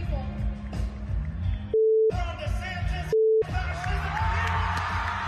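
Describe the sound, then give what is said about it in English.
Two steady, mid-pitched censor beeps, each lasting a few tenths of a second, cut into a loud, noisy crowd with shouting and cheering, blanking out speech by Representative Maxwell Frost, who says "F DeSantis" and "F fascism". “You can't even hear it because the beep is most of it”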